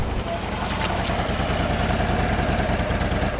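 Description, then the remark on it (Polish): A motorcycle engine idles steadily after the rider stops on the Carska Droga (Tsar's Road), its low, even chugging pulse running throughout with a faint mechanical rattle on top. “Dojechałem na Carską Drogę, zatrzymuję się”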